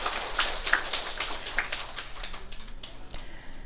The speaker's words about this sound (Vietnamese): Xin đại chúng vỗ cho tràng pháo tay.